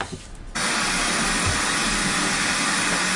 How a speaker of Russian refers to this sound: Да, мы забыли послушать белый шум.